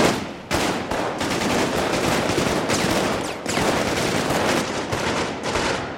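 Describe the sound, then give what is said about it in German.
Loud, sustained machine gun fire from machine guns set up on the left, right and behind: dense rapid bursts of sharp cracks run almost without pause for six seconds, broken only by a couple of brief gaps. No voices are heard. “In hat man einfach links, rechts und hinten Maschinengewehre aufgebaut.”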